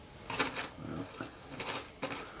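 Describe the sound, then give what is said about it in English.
Dice rattle and clatter across a hard surface in a quick burst of sharp clicks, pausing briefly before another cluster of knocks, fairly quiet with no voices. “I like rolling dice in the water.”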